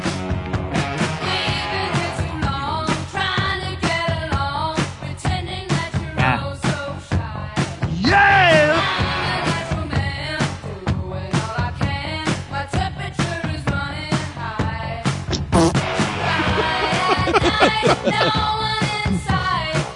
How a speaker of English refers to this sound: I don't listen to women yelling. I tell them to shut up. It's a badass song.